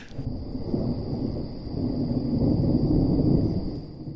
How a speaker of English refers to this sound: By evening, there's a giant storm going. You can't sail. Even with the engine, the whole thing is a mess.